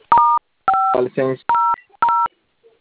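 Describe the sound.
Four crisp telephone keypad tones beep in quick succession as star 510 is dialed to deactivate a phone tone service, with a short burst of voice cutting in between the second and third tones.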